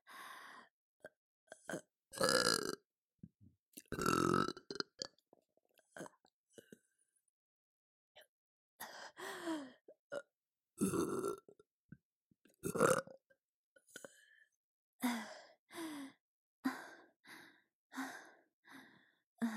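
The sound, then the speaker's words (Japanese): A woman lets out a series of loud burps, some long and croaky, others short, spaced irregularly with breathy exhales and sighs between them and no talking. “ほら、お姉ちゃんのゲップだよ。”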